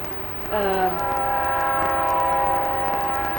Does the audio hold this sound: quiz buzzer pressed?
no